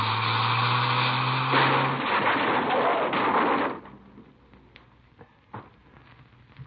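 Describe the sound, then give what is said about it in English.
A loud, roaring rush of car noise with a high whine builds and crashes to an abrupt stop, followed by quieter scattered clunks and rattles of debris settling. “Hang on. We're going to hit.”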